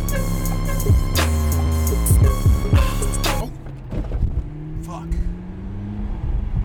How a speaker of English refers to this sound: instead speeding away in his McLaren sports car. His joyride doesn't last long though. The song ends with Tyler hitting a large pothole.